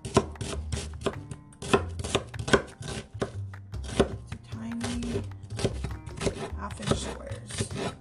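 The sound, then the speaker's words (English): Rapid, steady knife chops on a cutting board as an onion is diced, a brisk run of sharp, crisp taps repeating for several seconds with a faint low hum underneath. “So now we're just gonna dice it.”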